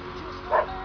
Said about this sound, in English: Three barks.